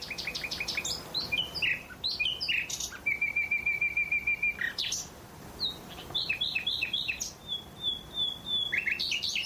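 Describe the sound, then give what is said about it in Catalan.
A common nightingale, a migratory bird that winters in sub-Saharan Africa, sings in rich, varied phrases: rapid repeated chirps, a sustained pure whistle, and quick trills, clear over a soft background hiss with no talking. “Sí, aquest és el rossinyol, també és un ocell migrador i el tenim només a la primavera-estiu aquí.”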